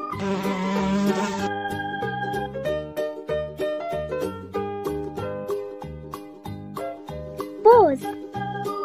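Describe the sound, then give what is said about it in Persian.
A loud bee-like buzzing drone rises for the first second or so, then gives way to a bouncy, plinking children's tune that carries on to the end. “زنبور زنبوره طلایی، همیشه گرم کاری، میری به روی گلها شیره گل میاری، عسل میسازی کم کم با اون صدای وز وز، وقتی که نیش میزنی جوش میشه زودی قرمز.”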